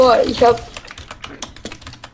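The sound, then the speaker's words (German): Rapid, irregular clacking of keys on a computer keyboard, a quick run of crisp clicks. A brief voice sounds at the very start before the typing carries on alone. “Spielst du auf Monster-Tastatur?”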